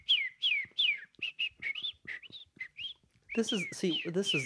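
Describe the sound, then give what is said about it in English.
A person whistles a quick series of chirpy, bird-like calls, rising and falling in short bursts, mimicking birdsong; toward the end the notes get louder and fuller, with a voice-like warble. “That's a really good bird sound.”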